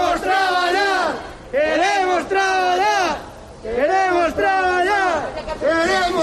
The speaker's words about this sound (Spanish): Al grito de queremos trabajar, los hosteleros de Verín se concentraron esta mañana en la plaza del Ayuntamiento.